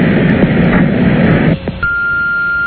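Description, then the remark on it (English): A single long, steady answering machine beep comes in after a stretch of muffled background noise and holds at an even pitch until the end, clear and fairly loud. “To send a fax, start now. To leave a message, speak after the beep.”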